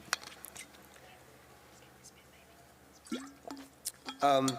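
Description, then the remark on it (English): Water is poured into a glass, heard quietly as a series of faint trickles and drips that build into a brief, brighter gurgle as the glass fills at the end. “Let's have a bit more water.”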